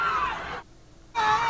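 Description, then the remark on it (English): A crowd of protesters in Charlottesville screams loudly as a car accelerates into them, high panicked voices overlapping in two bursts separated by a brief half-second lull. “He actually accelerates into the crowd.”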